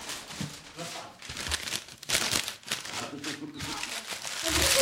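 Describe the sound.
Paper crinkling and rustling in repeated bursts as sheets are folded and creased for origami, with quiet voices murmuring in the background.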